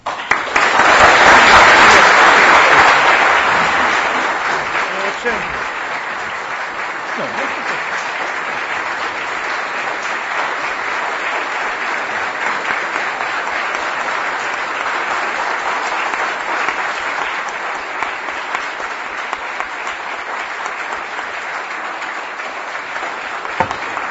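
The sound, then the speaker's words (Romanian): Sustained audience applause at a conference after a talk by Vasile Bănescu, loudest in the first few seconds and then settling into a steady, dense patter of clapping that continues evenly to the end, with no talking over it. “De ce ați aplaudat.”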